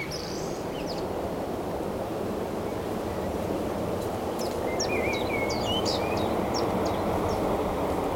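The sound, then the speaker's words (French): A common blackbird sings a few short phrases of fluting notes and high twitters over a constant loud roar of ocean surf, at the Sizon nature reserve with a view of the ocean. “Un merle avec vue sur l'océan.”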